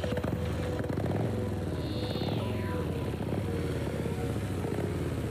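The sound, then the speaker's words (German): Several motorcycles of the Red Panther Biker Club in Klagenfurt rumble past on a group ride, their engines droning and revving continuously, with one pitch sweeping downward as a bike passes by. No voices are heard. “Miteinander Motorrad zu fahren.”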